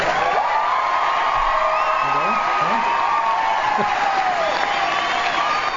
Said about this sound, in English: I don't like so much applause. Well, then why'd you bring them all with you?